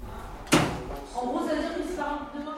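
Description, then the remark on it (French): A door shuts with a single sharp clack, its short ring dying away quickly as muffled voices carry on talking in the background. “Dans les premiers temps, ça peut être particulier parce qu'on ouvre beaucoup de portes, on ferme beaucoup de portes.”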